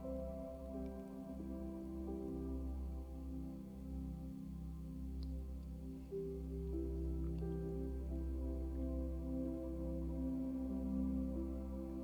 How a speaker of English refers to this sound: You can hear the water gently cascading down the river's rock bed. There's that gentle sound of some of the rocks shifting as the water flows down the stream.